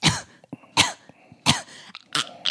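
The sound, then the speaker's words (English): A person imitates a child's harsh, retching cough in four loud, raspy bursts spaced about half a second apart, with gagging, throaty strain between them and no speech. “Oh, and don't forget the wretch. Oh God, the wretch. The cough.”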